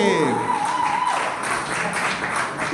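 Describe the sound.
A crowd applauds steadily for a few seconds, a dense wash of clapping with a whistle or cheer rising at the start and voices mixed into the noise.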